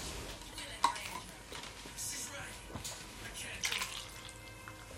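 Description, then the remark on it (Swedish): A fizzy drink pours with a steady hiss of bubbles and a few sharp clinks and splashes, while faint voices murmur in the background. “Jag kan ta lite mer fizzy bubblis.”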